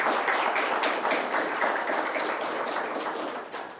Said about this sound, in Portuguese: É a bondade, a salva de palmas para ele.